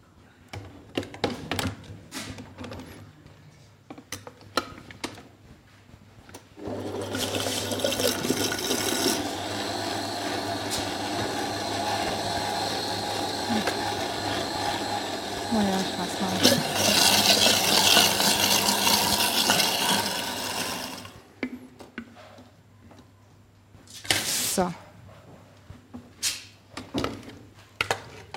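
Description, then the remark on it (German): A blender mixing a chocolate mixture whirs steadily for about fourteen seconds, a loud, dense grinding roar that brightens partway through, framed by scattered clicks and knocks before and after. “Ich mixe es noch einmal.”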